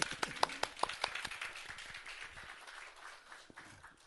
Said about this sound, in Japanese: 後ろにいらっしゃいますけどもね、お待ちしてますと拍手したいと思います。拍手して。